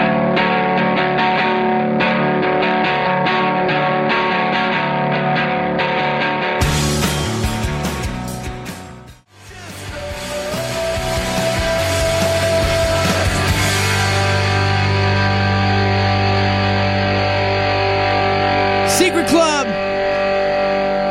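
A loud, heavily processed song plays continuously on a radio show, with distorted, buzzing synth layers and vocal-like tones, briefly dropping to near silence midway before the dense mix surges back.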